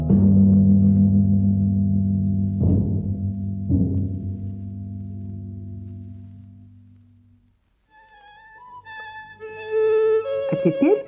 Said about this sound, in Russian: Запиликала пашетта. Вы в старинном танцклассе. Учитель танцев проиграл мелодию на крохотной скрипочке и показал пируэт.